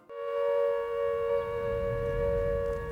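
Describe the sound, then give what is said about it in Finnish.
A wartime air raid all-clear siren, signalling for the last time that the danger was over, sounds one steady, unbroken tone, rich in harmonics and held at an even loudness for the whole stretch. A low rumble runs underneath. “Kun hälytyssireenit ilmoittivat viimeisen kerran, että vaara ohi, niin Covent Gardenin teatterin kohtalo tuli vaakalaudalle.”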